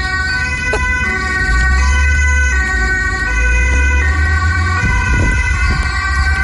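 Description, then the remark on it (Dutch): A loud ambulance siren wails steadily with a constant engine rumble beneath it as an ambulance turns out from an ambulance station, with a brief clatter of movement near the end as the vehicle sets off. “Het uitrukken van de ambulance bij de ambulancepost.”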